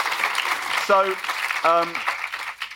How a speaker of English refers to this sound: Oh, that's great. Yeah, that's lovely. Yeah, come on, let's have a round of applause for that.